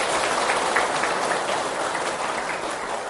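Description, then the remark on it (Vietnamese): A crowd breaks into steady applause, dense overlapping clapping that holds at an even, fairly loud level for a few seconds with no voices over it. “Và nếu đó là điều mà chúng ta cùng có thể làm được, hãy dành một tràng vỗ tay để phát nguyện.”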